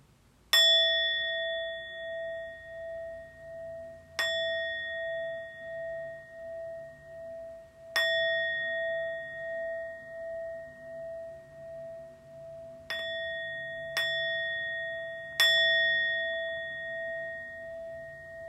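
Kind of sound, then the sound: signal or alarm, meditation bell ringing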